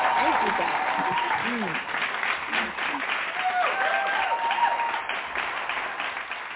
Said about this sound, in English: And we're going to welcome her with a hand clap.